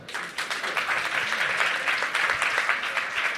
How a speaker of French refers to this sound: Qu'il se dénonce, qu'il se lève. Ou qu'elle se lève, je sais pas. Il y a eu un petit... Fout. Un petit applaudissement au fond.